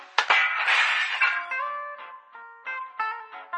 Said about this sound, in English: If you were confused by the opening intro / breaking glass sound effects, which hopefully isn't too loud.